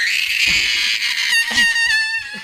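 human body sound, little girl screaming

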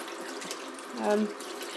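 household object, tap water running

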